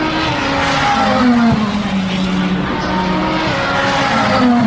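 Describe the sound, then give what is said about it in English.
Race cars, among them a BMW, a Toyota, a pair of Cadillacs, a Ferrari and a Porsche, roar past at high speed about a mile and a half from the start-finish straight, their loud engine whine rising and falling in pitch as several cars sweep by one after another, continuous with no talking. “You can always tell when the cars are coming.”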